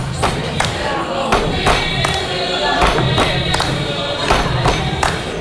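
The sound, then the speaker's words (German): A crowd in the Hard Rock Café in Cologne stamps and claps along to a music video in a steady, repeating stomp-stomp-clap rhythm, each beat a sharp, loud hit over a constant bed of crowd noise and murmuring voices. “wird, stampfen und klatschen alle mit.”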